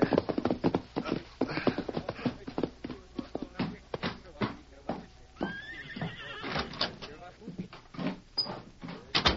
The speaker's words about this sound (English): A few hours later, Tommy Welch reined up his horse in front of the Cattleman's Bank in Blue Mesa.